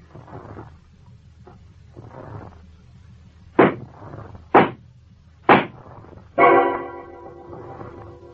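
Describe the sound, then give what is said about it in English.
Three sharp, loud gunshots crack out about a second apart, fired into a mattress, followed by a heavier burst with a ringing, tonal tail, all over a low, murky background rumble. “Now, maybe this sounds porky, but if a ballistics expert can't turn the three slugs he'll dig out of my mattress into an attempted murder charge, I'll hand in my badge.”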